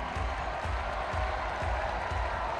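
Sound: crowd applause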